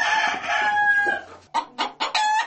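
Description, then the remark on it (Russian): In the farmyard of a village boarding school, a rooster lets out a long, drawn-out crow, followed by a quick series of four sharp clucks from chickens, fairly loud, with no talking. “Свиньи и куры накормлены и напоены.”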